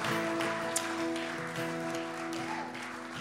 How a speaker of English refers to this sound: Why don't we give a big round of applause to all these guys.